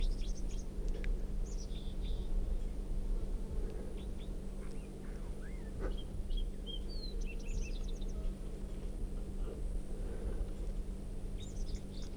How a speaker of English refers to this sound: And that song coming from, I think, 305. Recording. This wild bird is red, and it has a right crossing bill, and it has quite a bit of yellow right down the middle of the belly.